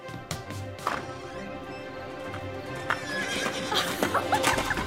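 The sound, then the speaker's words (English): A horse outside whinnies and snorts while its hooves clop steadily on a hard surface, the sharp hoof strikes repeating irregularly over a busy outdoor background. “There is a horse outside.”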